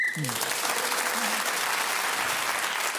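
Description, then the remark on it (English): A single short, high whistle blast ending a round of a panel game, quickly swallowed by a burst of loud, steady applause that continues to the end. “So Will Self, speaking as the whistle went, gained that extra point.”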